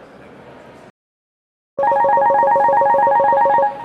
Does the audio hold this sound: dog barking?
no